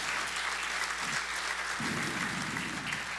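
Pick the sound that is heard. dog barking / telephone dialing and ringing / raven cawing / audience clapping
audience clapping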